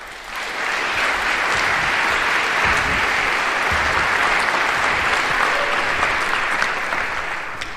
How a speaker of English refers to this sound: So give him a warm applause for his talk.